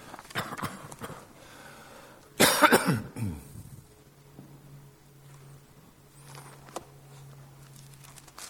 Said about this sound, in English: I'm still coughing. Nothing to do with any other kind of medical story of this year.